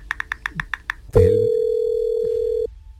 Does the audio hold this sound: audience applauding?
no